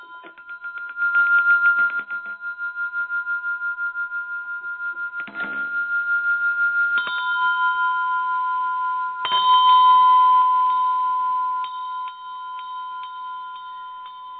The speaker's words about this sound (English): So for instance, for whoever that is, I was just guided, I'm gonna ring a couple of bells to just help unblock and move that energy out.